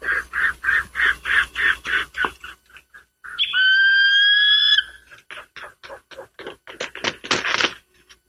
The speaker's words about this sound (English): Keep listening. A little bit hard to hear. It's actually an eagle.